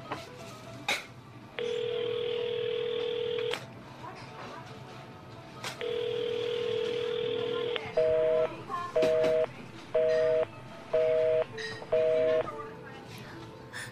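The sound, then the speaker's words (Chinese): A telephone call tone sounds in two long, steady buzzes, then switches to a rapid run of short, evenly spaced busy beeps, clear against a quiet background. It is an outgoing call that finds the other line busy. “我给他打个电话，你给我冷静一点。”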